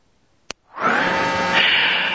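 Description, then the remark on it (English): A single sharp click, then after a brief pause a loud, steady mechanical whirring starts and runs on without a break, as the tape is turned over in a tape recorder during a recorded interview. No one speaks. “I'm going to have to stop and turn the tape over.”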